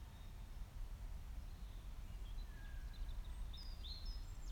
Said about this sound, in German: Lausche meiner Stimme und lausche den Geräuschen des Waldes, die du neben meiner Stimme vernehmen kannst.